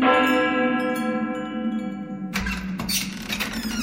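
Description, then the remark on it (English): The doorbell of a house at number 50, Berkeley Square, London, rings with a sustained, resonant chime rich in overtones for about two seconds, then gives way abruptly to a burst of noisy clatter. “Let's ring the bell.”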